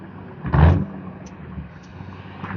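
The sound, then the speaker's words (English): A rumbling Mustang car engine swells loudly as the car passes by, then fades into a steady low traffic drone. “Rumbly Mustang.”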